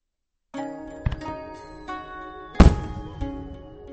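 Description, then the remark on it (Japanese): A green firework, test-fired for its unveiling, whistles up and bursts with a loud bang, followed by smaller pops, over a sustained ringing tone with no voices. “ようやくいい緑が出た。お披露目の試し打ちだ。”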